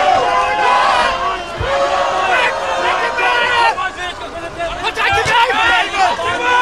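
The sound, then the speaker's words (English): A dense crowd of protesters at the Bella Center shouts and yells continuously as they try to push through lines of riot police, many voices overlapping into a loud, agitated roar with occasional sharp cries and thuds of jostling. “Protesters tried to push through lines of riot police.”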